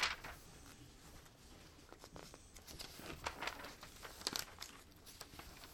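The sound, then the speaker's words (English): Thin paper, thinner than it normally is, crinkles and rustles as pages are turned, with irregular soft crackling bursts and no talking. “Man, this paper is a lot thinner than it normally is.”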